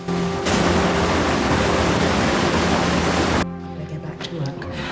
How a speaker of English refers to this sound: Starger turns a metal wheel. Outside, water splurges out of a pipe some distance from the buildings.